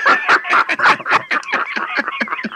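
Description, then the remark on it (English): A person imitates a crow from the Mary Martin Peter Pan scene, a loud, strained vocal call broken into rapid squawking pulses that run for a couple of seconds with no other talk. “I got a crow.”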